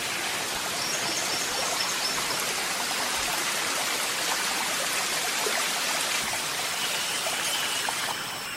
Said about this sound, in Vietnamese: Gần bên có con suối chảy róc rách và một đống gỗ bách hương chẻ sẵn của vị hảo tâm nào đó đã bỏ lại đây.